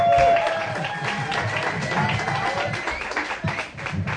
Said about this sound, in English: The applause seems a little louder this week.